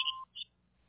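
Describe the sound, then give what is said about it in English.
A sharp electronic answering-machine beep, a steady tone lasting a quarter second, followed by a second brief higher-pitched chirp, then near silence. No one speaks. “Leave a message at the beep.”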